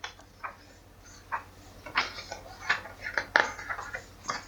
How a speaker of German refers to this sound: Das Blättern.